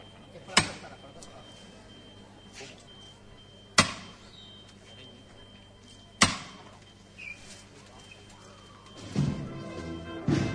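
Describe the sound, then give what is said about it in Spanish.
Three sharp, loud hammer blows ring out during a brotherhood procession of the Virgen del Pilar with its capataces, spaced about three seconds apart, each a crisp knock that decays quickly over a low background murmur, with some faint tonal sound rising at the end. “Golpe de martillo.”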